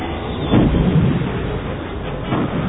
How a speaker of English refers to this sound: The paired torpedoes blasted through the conduit, causing a shockwave that rocked the fighter. The glare from the explosion gave Wedge one last glance at the complete destruction of the target.